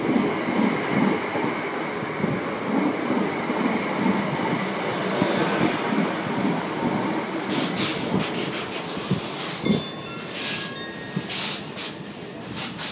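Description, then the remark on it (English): A passenger train, the delayed 0818 Southern service from Horsham to London Victoria, rumbles steadily alongside a station platform, with sharp metallic squeals and clanks breaking out over the last few seconds; no voices are heard. “This train is the service from Horsham.”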